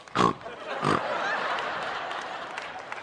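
Two short, loud pig oinks about half a second apart, followed by a steady, noisy hiss that fills the rest of the moment.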